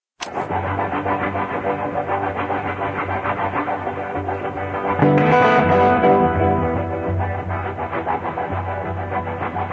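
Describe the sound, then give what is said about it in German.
A distorted electric guitar, improvised live as program music to a finished film while watching the rough cuts, mimics rumbling car engines and a train, holding a dense, growling drone that swells louder midway with a brief whining rise before settling back. No talking. “hier einen Zug nachmacht und wie eben die Autogeräusche nachgemacht werden”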